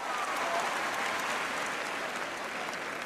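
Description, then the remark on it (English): Steady audience applause fills the whole stretch, a dense wash of many hands clapping at once, fairly loud and even throughout with no talking over it. “In the audience, two women in their early 50s raise their hands up and applaud.”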